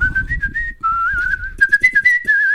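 A person whistles a smooth, steady melody up close, the tone gliding gently between notes with a few wavering trills, accompanied by faint low rumbling and breathy background noise.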